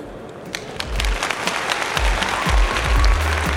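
A theater crowd applauds the performers at the end of an hour-long one-act show, steadily, with dense overlapping claps that swell slightly louder toward the end, and a low rumble underneath.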